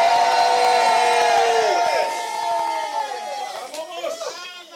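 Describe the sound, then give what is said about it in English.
A large crowd shouts the word "grace" together in a loud, sustained chorus of many overlapping voices, which then trails off into scattered, wavering cries. “Everybody shouts, grace!”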